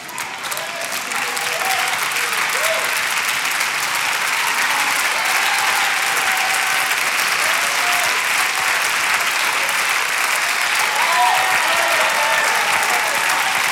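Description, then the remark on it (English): A crowd applauds steadily and loudly for the whole stretch, a dense wash of clapping with scattered whoops and shouts rising through it, no pause or fade. “You should clap like he's that big.”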